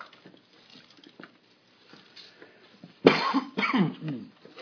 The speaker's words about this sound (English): Be coughing a little bit this morning. Don't know why, but I'm going to be. So enjoy that.